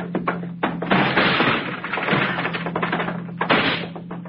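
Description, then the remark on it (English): Heavy thuds of a locked door being kicked in, several loud blows followed by splintering, rattling crashes, with a low steady hum underneath and no voices. “It's locked. I don't have a key. All right, I'll kick it in.”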